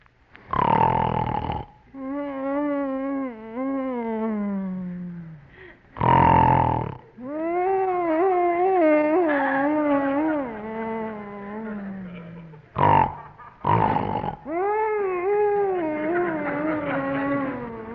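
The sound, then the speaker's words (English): Loud, exaggerated comedic snoring by John Bickerson in bed in the dark, from the radio comedy The Bickersons: harsh rasping snorts, each followed by a long, wavering, whistly exhale that slides up and down in pitch, repeating in a slow cycle about four times. “Blanche Bickerson lies tense and sleepless in the dark as poor husband John, tortured by the guilt of having missed his own anniversary party, suffers another attack of intermittent insomnia, or woodchopper syndrome.”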